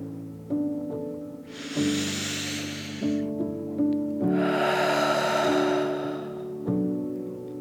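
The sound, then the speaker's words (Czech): Two loud breathy rushes of air during a breathing exercise, a deep breath drawn in through the nose and then a long forceful huff blown out through the mouth, over soft steady background music with no talking. “Hluboký nádech nosem a výdech pusou.”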